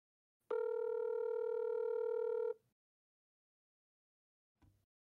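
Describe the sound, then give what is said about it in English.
A phone line's electronic ringing tone sounds once as an outgoing call is placed to a man's phone, a steady two-second buzz, followed by a few seconds of silence and a brief soft click near the end. No voices. “So I'm going to go ahead and ring his phone.”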